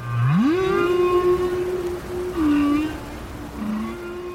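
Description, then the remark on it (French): A long humpback whale call, from a group of five humpback whales observed by scientists in Australia, rises from a low groan into a sustained tonal moan, wavering and dipping in pitch, with a shorter lower note near the end over a steady underwater hiss. “Et avec mes copains scientifiques, nous sommes en train d'observer un groupe de baleines à bosse.”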